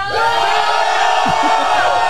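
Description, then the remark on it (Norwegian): A crowd roars loudly and continuously for about two seconds, a dense wall of many voices shouting and cheering together at full volume without letting up, voting by roaring on whether someone should recite a haiku. “ta brøl så høyt dere kan hvis han skal holde haiku.”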